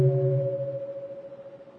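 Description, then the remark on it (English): A single soft, muted half sound of a mindfulness bell, given as a warning before the full sound: a low, humming tone with a gentle wavering pulse that slowly fades, heard alone with no voices. “The half sound of the bell is to warn you, to tell you that a full sound is going to be heard.”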